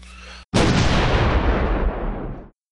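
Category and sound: sound effect, cannon fire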